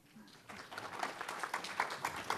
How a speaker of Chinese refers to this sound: 为我们掌声欢迎。